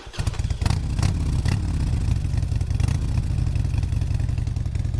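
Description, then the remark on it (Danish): A motorcycle engine runs loud, a steady throaty rumble with a few sharp clacks near the start and no voices; a motorcycle ridden with a Hells Angels chapter in California, with a photographer taking road photos from the back seat. “Her tog han vejfotos af dem fra bagsædet på en motorcykel.”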